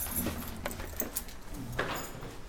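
A few light metallic clinks and rattles of keys jangling as they are handed over, in brief scattered bursts over a low room hum, fairly quiet.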